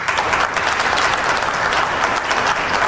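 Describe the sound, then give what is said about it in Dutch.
A crowd applauds steadily, a dense wash of many hands clapping at once, loud and sustained for a few seconds with no voices standing out. “voilà, de applaus.”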